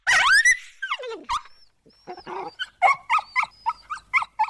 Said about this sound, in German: Der Hund begann verzweifelt zu kläffen und zu zappeln.